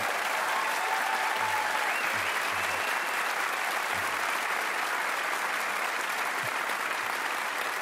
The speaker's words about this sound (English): They call themselves …. Please give them a healthy round of applause.